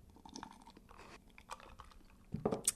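sipping a cocktail

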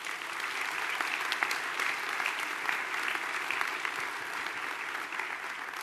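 audience round of applause

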